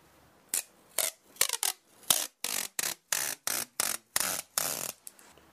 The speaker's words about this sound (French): Évidemment, c'était le scotch.